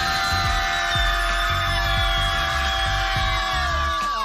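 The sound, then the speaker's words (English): A group of people at an outdoor screaming yoga session scream together in one long, loud, sustained yell, with a soft rhythmic thumping underneath. The voices bend downward and fade out right at the end. “Our friend Alex Miranda at Deco Drive Miami introduces us to something called screaming yoga.”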